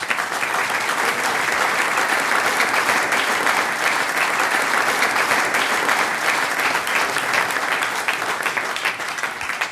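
Sustained applause from a crowd, a dense, steady wash of clapping that stays loud and even for about ten seconds with no voices standing out.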